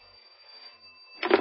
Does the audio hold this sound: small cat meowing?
no